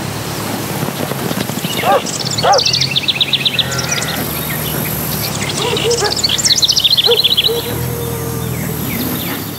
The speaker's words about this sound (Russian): Именно на этих полях козочки и пасутся. Ароматы трав, кузнечики, рядом речка. Только прислушайтесь.